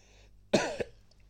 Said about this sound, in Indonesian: Sorry ya, gue lagi batuk.